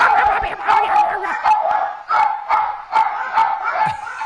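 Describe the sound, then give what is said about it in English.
Several small dogs, heard in the audio of a video, bark and yip rapidly and continuously as they come out while a bear is leaving, a dense overlapping chorus of sharp, high-pitched yaps, with some background voices mixed in. “He's leaving, and here come the chicken dogs.”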